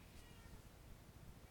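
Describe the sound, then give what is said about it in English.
A faint cat meow, brief and soft, barely rising above a steady background hiss with no talking. “What can you hear? Meow.”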